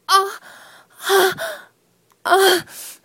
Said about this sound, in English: Breath released explosively, followed by a deep inhalation. Released slowly in a long, sometimes loud moan that becomes gasps.